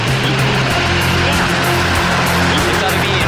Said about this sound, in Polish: Pełna moc silników. I rakieta wystartowała z bazy Tanegashima na południu Japonii.